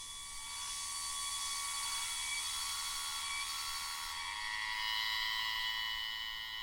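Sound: cicada song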